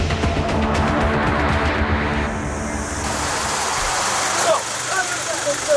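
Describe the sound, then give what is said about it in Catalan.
Loud, steady engine drone from firefighting seaplanes fighting the wildfires on the Greek island of Rhodes, a dense low rumble with a broad roar over it, holding through the whole stretch with a brief surge near the end. “Igual que aquests, els hidroavions que lluiten contra els incendis”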